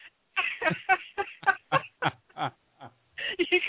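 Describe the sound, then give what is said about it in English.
A toy chicken puppet from a toy store squawks in a rapid, uneven string of about ten honking, clucking bursts, fairly loud, with a short pause before a final flurry and no talking. “I got a puppet chicken.”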